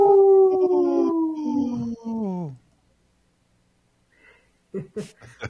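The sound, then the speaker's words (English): A person on the Native Roots Radio show gives a loud, sustained imitation of a wolf howl that slides steadily downward in pitch for about two and a half seconds, followed by a pause and a few spoken words. “You got the howl down.”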